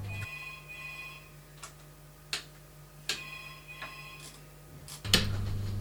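A faint telephone rings steadily, a thin electronic tone running throughout, punctuated by a few sharp ticking clicks. No one speaks.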